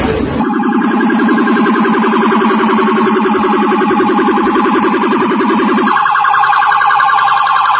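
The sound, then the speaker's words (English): A loud police siren wails continuously with a rapid warbling pattern, shifting to a different tone near the end, as police cars gather near Malibu Pier. No one speaks over it. “And look at all these police cars here.”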